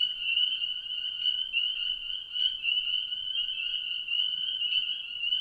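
A dense chorus of spring peeper frogs, countless high, shrill peeps blending into a continuous bright, tinkling shimmer that holds steady throughout with no pauses and no voices.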